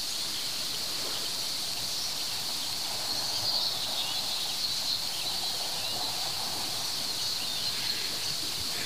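A bird sings outdoors, its call plus an added sharp, thin, high ringing tone that rings on and on over faint chirps and soft background ambience.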